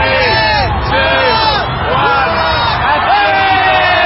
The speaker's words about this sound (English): In one of the globe's most watched New Year's Eve spectacles, the crowd counted down the last seconds of 2019 as a luminescent crystal ball descended down a pole.